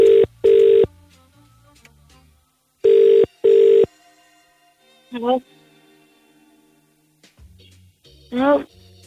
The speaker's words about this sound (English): so I'm just going to ring her. Mom, if you're listening, please answer the phone. Hang on a second.